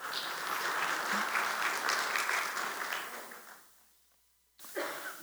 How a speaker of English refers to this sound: You may regret your applause at the end.